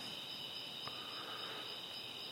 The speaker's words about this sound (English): But that's like saying, tired of the sound of the crickets. Why can't they go away? They're going to be here, so you might as well just live with them.